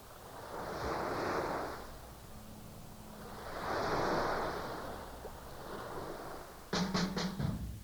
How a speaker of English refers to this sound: the way the swells will heave and they'll pitch and they'll throw out and create surf, or create waves. And those waves can be ridden, and that's the magic.